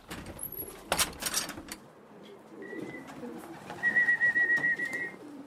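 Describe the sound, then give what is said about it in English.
Several pigeons in a pigeon loft coo in soft, overlapping burbles that swell toward the end, with a burst of clattering knocks near the start and a thin high whistle drifting in, as a man checks on his birds during his morning routine. “Then he goes straight to the pigeon loft to check on his birds.”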